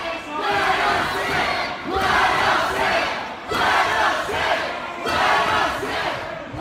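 protest crowd shouting

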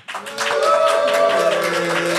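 audience applause

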